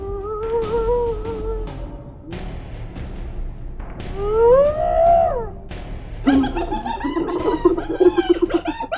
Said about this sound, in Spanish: En no menos de 10 minutos empezaron a llegar las hienas, que rodeaban a las leonas, mientras al mismo tiempo aullaban y reían, haciendo un ruido ensordecedor.